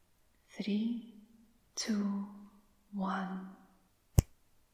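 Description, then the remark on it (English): A voice speaks three short drawn-out utterances with pauses between, followed by a single crisp finger snap, sharp and brief, then quiet. “When I snap my fingers, you will listen and you will obey.”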